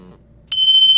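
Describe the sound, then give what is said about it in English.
After a quiet half second, a single meditation chime signalling the end of the meditation rings out, bright and high-pitched with shimmering overtones, holding steady and loud through the end. “As you hear this chime, I want you to listen to the chime until you can no longer hear it anymore.”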